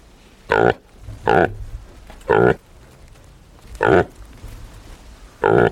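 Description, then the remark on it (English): A reindeer calf grunts five times, each grunt a short, throaty, harmonic burst, spaced irregularly with quiet pauses between. No other sounds or voices. “A calf grunting.”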